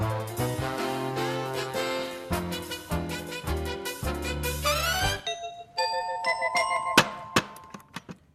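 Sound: doorbell ringing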